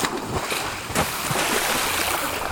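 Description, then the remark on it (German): Two children jump into a river and swim: water splashes and churns continuously, with a sharp splash near the start as something plunges in, followed by steady sloshing and paddling, fairly loud. “Sie sprangen in den Fluss.”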